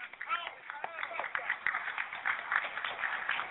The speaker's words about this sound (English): Without further ado, I want to introduce to you the national and international chairman of the new Black Panther Party for Self-Defense. Bring him on with a hearty round of applause, Malik Zulu Shabazz, Attorney Malik Zulu Shabazz.